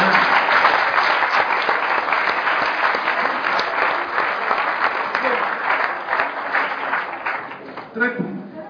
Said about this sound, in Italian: Un applauso al Signore.